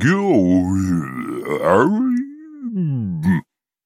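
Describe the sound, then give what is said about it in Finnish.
A voice imitates a hungry hedgehog's loud stomach growl: one long, rumbling, groaning sound with wavering pitch that dips low in the middle, rises again and then stops abruptly after about three seconds. “Siilin mahasta kuului kauhea murina.”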